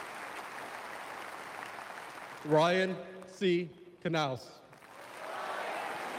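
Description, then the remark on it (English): A crowd calls out a name together in unison, repeating the names back to a man reading them aloud, one loud burst of voices rising above a steady wash of crowd noise and scattered applause. “They're saying the names back to him as a crowd.”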